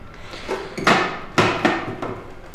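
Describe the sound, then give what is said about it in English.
A fuse box at the entrance of an office being handled: a few sharp metallic clanks and knocks, three louder ones with ringing decays, irregularly spaced over light rattling, with no voices. “Here's the fuse box, by the way.”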